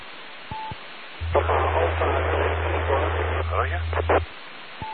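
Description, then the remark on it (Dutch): A faint, garbled radio transmission almost lost in hissing static, with a steady low hum under the noisy burst of a voice and short beeps at either end. “Ja, Roger, dat kwam wel door, maar de rest kwam weer even in de ruis.”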